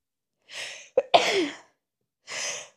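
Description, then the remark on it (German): A sharp sneeze with a quick breathy intake before it, bracketed by a couple of soft exhaled breaths; no talking. “Oh, ich habe das Gefühl, ich muss gleich niesen.”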